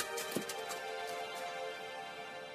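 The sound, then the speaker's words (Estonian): Donkey hooves clip-clop on a mountain road in a short run of a few steps over a steady, sustained musical drone, then fade into the background as the tone carries on. “Eesli seljas mägiseid teed mööda minnes võttis see aega enam kui nädala.”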